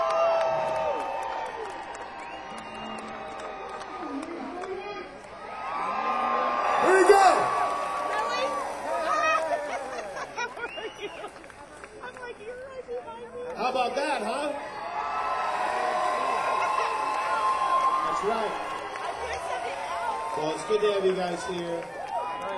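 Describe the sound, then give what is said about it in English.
A large concert crowd in LA cheers and claps for the singer before the second song for over twenty seconds, a steady wash of applause with whoops and shouts swelling in two louder waves, no single voice standing out. “So guys, we ready to make a little noise? Get those hands a little loosened up.”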